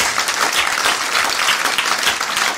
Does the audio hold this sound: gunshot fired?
no